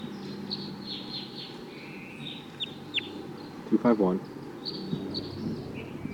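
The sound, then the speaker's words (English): Faint, high chirping calls of wild birds come and go over a steady background hiss, broken by one short, louder, lower-pitched harmonic call partway through; a wild male high in a treetop gives occasional flight calls. “Start recording bird 251.”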